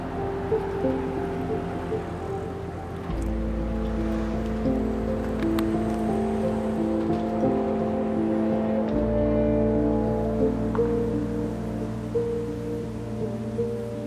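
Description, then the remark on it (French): The Brouillon river flows steadily through the mountain village of Prélanfray, in the Vercors, with a continuous broad rushing wash of water and an even, unbroken level, accompanied by a faint low hum. Nobody speaks. “On entend un bruit d'eau, un bruit de rivière, pourquoi ?”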